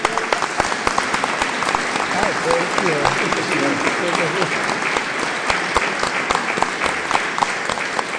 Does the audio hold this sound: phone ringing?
no